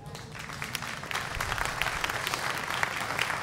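A small group of parents clapping steadily for several seconds, a dense patter of hand claps building slightly, with no voices standing out.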